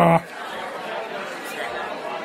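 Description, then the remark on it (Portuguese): Crowd noise at the arrival of a governor: a steady, busy murmur of many overlapping voices chattering at once, with no single speaker standing out, opening with a brief louder burst before settling into an even hubbub. “Barulho de multidão.”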